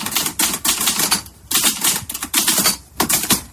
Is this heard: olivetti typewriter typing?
yes